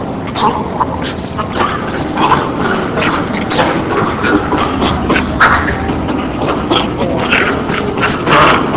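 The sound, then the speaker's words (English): Rapid, breathy panting laughter from a primate, a steady run of harsh, grunting huffs repeating fairly loud for several seconds without pause. “Example 11 is the panting laugh.”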